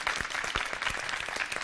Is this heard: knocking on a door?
no